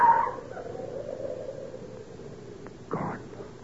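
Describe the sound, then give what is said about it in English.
A dog gives a short, high yelp at the start, then a single louder bark near the end, set against a steady low background rumble with no talking. “Sam Trelawney is dog. That brute hates me.”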